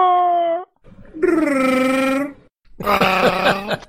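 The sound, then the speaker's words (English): A voice imitates a Wookiee growl in three loud, wavering bursts, each a throaty, harmonic moan that rises and quavers. The last burst is the rawest and most strained. No words are spoken. “Why don't you just do a wookie growl and make me feel terrible?”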